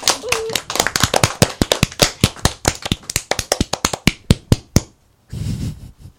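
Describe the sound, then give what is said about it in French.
An audience applauds the winner of a singing vote on a music show, clapping loudly in fast, sharp, evenly spaced beats, almost in unison, for about five seconds. A short whoop rises at the start, and a brief burst of crowd noise follows the claps. “bravo, tout le monde peut applaudir très fort”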